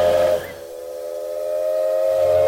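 A steam train whistle sounds one long, steady, piercing blast with rich harmonic tones and a hiss of steam, holding strong for a couple of seconds with no voices.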